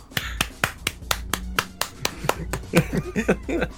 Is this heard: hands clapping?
yes